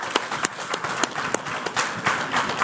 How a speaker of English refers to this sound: So let's give a nice round of applause to John Whitmire.